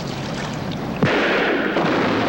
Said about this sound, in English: They look back as a mast is felled by the Macedonia's gunfire. Aboard the schooner, the crashing alerts the crew.